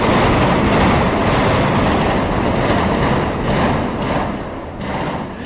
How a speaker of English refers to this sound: Yes, that's gunfire, but it's all part of the show in what appears to be a chase and shootout scene being filmed at an intersection made up to look like a Washington, D.C. metro stop.